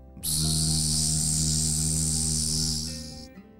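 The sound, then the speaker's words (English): A loud, steady buzzing of a fly drones for about three seconds, a low humming tone layered with a harsh hiss, with no talking, tapering slightly before it cuts off. “Joseph turned over towards the basement door that was closed, but he heard a terribly loud buzzing sound.”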